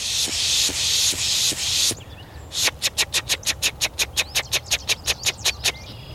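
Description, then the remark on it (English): Someone pishes, imitating the aggression noises of chickadees and other small birds to draw in birds: a few long, breathy hissing rushes, then a brief pause and a rapid, even string of short sharp hisses. “We make this, we call it pishing. It's supposed to sound a little bit like chickadees and other small birds making their aggression noises that'll draw in other birds.”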